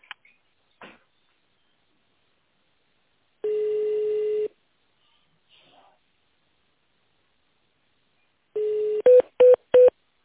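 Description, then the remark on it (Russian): A steady electronic telephone tone sounds for about a second, then after a pause another tone is followed by three short, quick keypad beeps as an internal extension number is dialed, with faint clicks earlier. No one speaks. “Наберите внутренний номер абонента или дождитесь ответа секретаря.”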